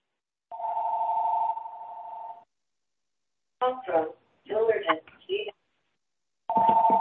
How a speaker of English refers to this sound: Please mute whoever is, getting a phone call.